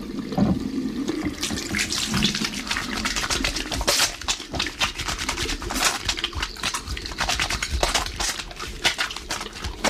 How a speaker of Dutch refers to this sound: In het ene huis wast Lia haar handen met het water.